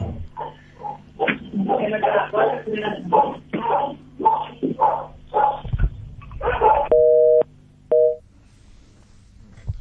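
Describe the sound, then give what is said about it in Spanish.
Voices talk over a low hum, then two short, steady electronic telephone tones sound alone near the end, like a busy signal pulsing twice, as a woman is called again during a police search. “Y bueno, aunque ella dijo, le llamo después, pero insistí nomás otra vez, a lo mejor te atiende.”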